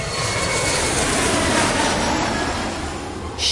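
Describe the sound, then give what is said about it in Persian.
A loud, steady roar of an airplane's jet engines as it approaches landing, a broad rushing drone that holds constant for a few seconds with a slight dip near the end. No one speaks. “بچه ها کمربند ها بسته، چون قراره یه فرود عالی داشته باشیم.”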